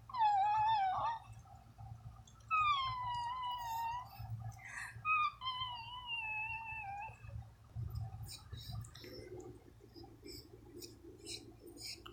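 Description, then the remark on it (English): A dog whines in three drawn-out, high-pitched cries over a low steady hum, followed by soft shuffling and rustling noises with no talking, as its owner coaxes it to whine. “Are you gonna be a good boy and whine for mommy, huh?”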